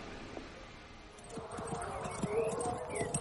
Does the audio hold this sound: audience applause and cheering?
no